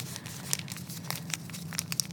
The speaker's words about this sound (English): I have this is a Tampax Sport, because I didn't want to buy two kinds of tampons. So here's a normal tampon wrapper.